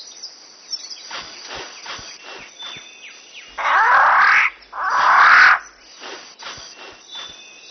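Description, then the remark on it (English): Display sounds of a riflebird, a bird of paradise, in the jungle of New Guinea: two loud, harsh rustling bursts, each about a second long, in quick succession against a quiet forest background with scattered faint clicks and calls. “A rifle bird of paradise.”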